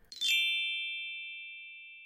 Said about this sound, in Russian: Прямо перед вами лежит колокольчик. Используйте его по назначению, и наша квест-прогулка тот же час начнется.